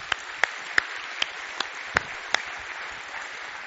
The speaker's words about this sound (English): Let's give the Lord applause this morning.